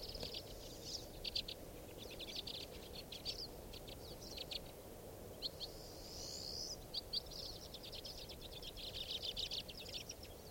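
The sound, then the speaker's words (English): A white-winged bird calls in quick series of high, dry chirps, bursts repeating throughout over a steady low rumbling background, with no voices. “Stop. There's a white wing.”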